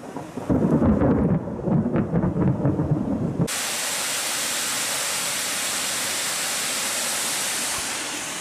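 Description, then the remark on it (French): A deep, loud rumble of thunder rolls for a few seconds, then cuts to a steady, dense hiss of heavy rain pouring continuously during a storm, without any voices. “On a tout mouillé à cause de la pluie.”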